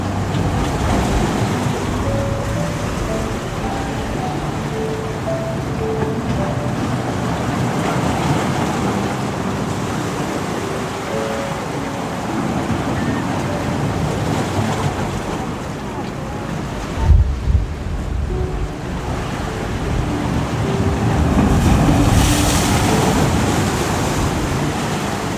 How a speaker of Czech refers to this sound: Vysoká vlna se právě rozprskla těsně před tebou a slané kapky vody se dotkly tvé tváře.